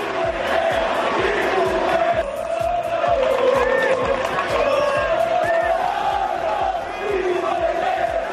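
A large crowd of Osasuna football fans shouts a rhythmic chant at Greenwood at Getafe's Coliseum, loud and continuous, with voices rising and falling together in a repeated cadence over a dense roar.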